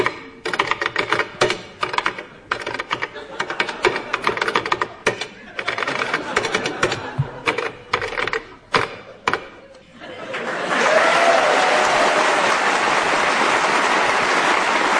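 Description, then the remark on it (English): Rapid typing on a keyboard, a dense clatter of keystrokes in irregular bursts for about ten seconds as a novel is tapped out for listeners to identify, then giving way to a loud, steady rushing noise. “Colin will tap out something for you to identify on a different keyboard.”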